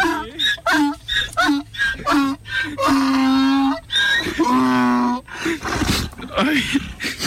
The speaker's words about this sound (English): ¿Qué pasa? ¿Qué pasa? The donkey's crying.